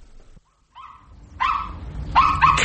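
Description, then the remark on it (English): A dog whines briefly, then lets out a few loud barks in quick succession, with no one talking. “Come on, if the dog's there, so are you.”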